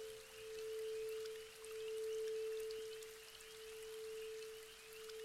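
Soft, light summer rain patters steadily on trees in a forest along a path to a temple, a gentle hiss of drops with no talking, while a constant low hum drones underneath.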